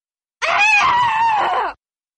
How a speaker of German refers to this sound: Sie schreit wie ein krankes Tier. Die Leute im Haus hören sie nicht.